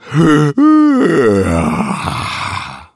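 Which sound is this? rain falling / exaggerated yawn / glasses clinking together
exaggerated yawn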